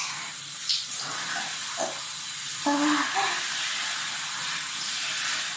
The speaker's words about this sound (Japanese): このシャワー水圧が勢いがすごい強いです。